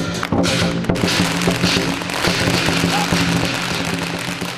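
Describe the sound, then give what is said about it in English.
A dense, continuous barrage of firecrackers snapping and popping on a busy street during Lunar New Year celebrations, sharp bursts piling over one another amid loud crowd noise and a low droning hum. “The air, thick with the acrid sulphurous smoke of firecrackers, and wherever you go, you hear that thunderous beat of drums, cymbals and gongs.”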